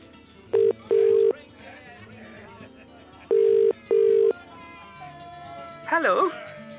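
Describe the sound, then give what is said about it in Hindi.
A phone line rings back in two double-beep bursts after a number is dialed, steady and fairly loud, with faint background voices murmuring underneath and a brief wavering voice near the end. “ठीक है, ये नंबर तू ही कर ले. मुझे क्यों फोन दे रहा?”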